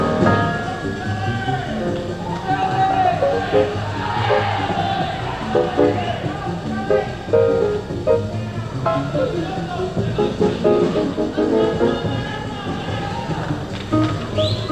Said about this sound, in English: There's an odd episode during a quiet … solo when the audience takes over. When they get so loud, you listen to them instead of the piano.